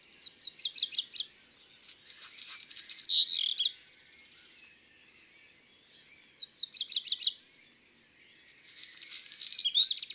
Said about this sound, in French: Le chant du rouge-queue-noir est en deux parties, avec un bruit de papier froissé.